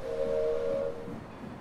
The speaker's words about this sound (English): She waves goodbye to the people on the platform as the wheels of the train begin slowly moving on the train tracks.